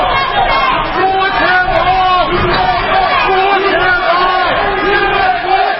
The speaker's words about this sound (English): The scene outside the U.S. courthouse in Washington for Michael Flynn's departure was a mix of critics, some of them chanting "lock him up," and also supporters of Flynn shouting "USA."